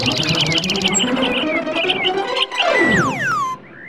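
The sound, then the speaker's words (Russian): Swallows twittering in a busy, chattering stream of rapid overlapping chirps and quick downward-sweeping whistles, loud, running continuously for a few seconds. “Вы уже, наверное, догадались, кто я. Ласточка!”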